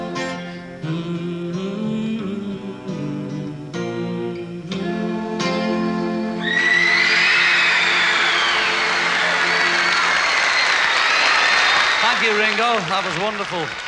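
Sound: audience cheering and applause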